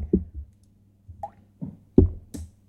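Someone drinks Bottroper beer after a toast, with a few soft gulps and wet plopping swallows in an uneven rhythm, plus a faint clink near the end and no talking.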